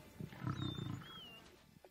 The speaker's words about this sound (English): This is the king of the jungle, the lion.